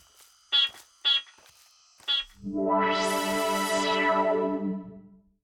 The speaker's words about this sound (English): Let me beep for you. But I'm doing it because I want to. Great. Beep.